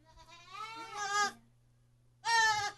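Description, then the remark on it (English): A baby goat at a goat yoga class screams twice, each call a loud, wavering, high-pitched bleat; the first rises over about a second, then a short pause before a second harsh cry, with a steady low hum beneath. “Those screams are terrifying.”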